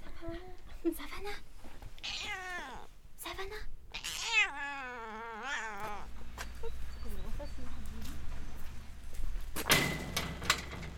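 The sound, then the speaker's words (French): A cat named Savannah, at an animal shelter, meows several times: a couple of short calls, then a long, wavering, drawn-out meow, followed by rustling and a low background hum. “Savannah qui m'a parlé.”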